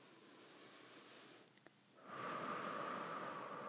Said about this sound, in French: Je t'invite à prendre une grande respiration.